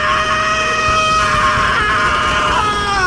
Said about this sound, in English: The interior of the Zephyr exploded with the sudden scream of Gregor Roginski